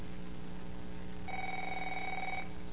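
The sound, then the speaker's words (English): A telephone bell rings once for a business call, a single bright burst of about a second, heard over a steady low background hum with no one talking. “This is a business call.”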